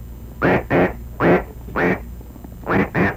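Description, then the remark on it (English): A champion duck caller blows a greeting call, trying to bring a duck named Ringo to shore: six loud, raspy quacks in uneven pairs and singles, clear with no voices over them. “Authorities tried everything to get Ringo to shore to rescue her, even trying a champion duck caller,”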